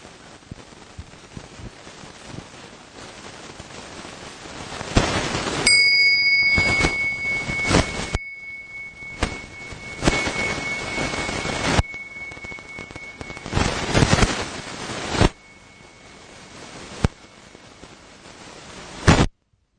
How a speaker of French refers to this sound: Voilà, avant d'aller plus loin, je vais donner le gong et puis nous allons en profiter pour commencer tous ensemble par notre présence pure à ce son.